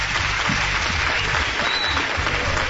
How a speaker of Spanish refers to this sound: Programa especial desde Zaragoza. Os pido un aplauso para él,